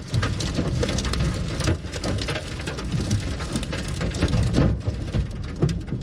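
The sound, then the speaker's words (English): A tornado passing right over a man's car in Gaithersburg, Maryland, with heavy rain pounding down in a loud, dense, unbroken roar, with gusty surges and low rumbling swells throughout and no voices. “In Gaithersburg, a tornado went right over this man's car.”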